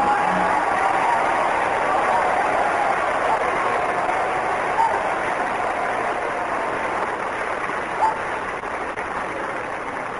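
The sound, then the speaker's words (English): Steady, dense applause from a large studio audience for a contestant in a talent contest judged by an applause indicator fills the whole stretch, loud and continuous with no talking over it and only slight swells toward the end. “The applause indicator shows the winner tonight on this program”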